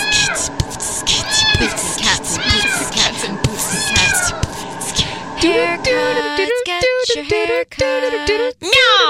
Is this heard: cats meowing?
yes